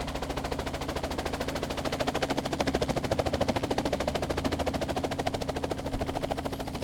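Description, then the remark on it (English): A helicopter descends and lands, its rotor chopping in a rapid, even thudding beat over a steady low engine drone, loud and continuous throughout, with no voices. “when all at once, everybody was knocked on their asses by a helicopter descending out of nowhere.”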